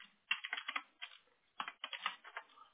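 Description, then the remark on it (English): Rapid clacking of keys on a computer keyboard, typed in two quick bursts with a short pause between, fairly soft, no voices. “Yeah, because I'm like, I'm typing it in exactly as you told me to.”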